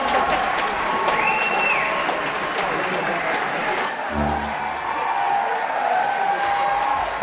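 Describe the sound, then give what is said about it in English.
A gig audience applauds in a dense, steady wash of clapping that stays loud for the whole stretch, with crowd voices and a brief whistle rising through the noise. “Here we go, applause, entry.”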